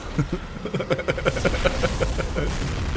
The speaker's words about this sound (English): So the explosion goes off, somehow moulding itself around Eric, who's astride the dragon, smashing his falchion into this would it.